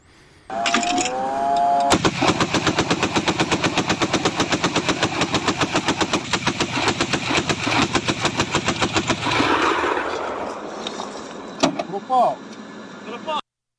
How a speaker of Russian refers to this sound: Сбивают, судя по звуку, зенитной пушкой.